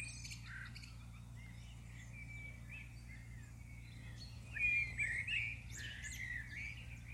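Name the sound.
birdsong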